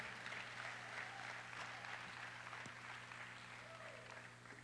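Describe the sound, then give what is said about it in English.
An audience claps their hands together in a dense, sustained wash of applause that holds steady throughout, with a low electrical hum and faint crowd murmur beneath it. “Come on, clap your hands with Jesus.”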